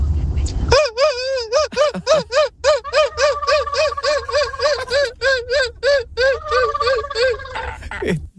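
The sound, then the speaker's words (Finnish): A human voice mimics swan calls with a rapid series of nasal, bugling honks in a steady rhythm, about twenty in all, while a second sustained honking tone runs underneath through the middle. “Tämä on joutsenten sinfoniaa.”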